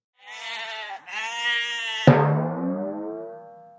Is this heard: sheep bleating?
yes